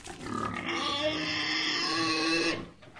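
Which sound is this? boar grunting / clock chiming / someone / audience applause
boar grunting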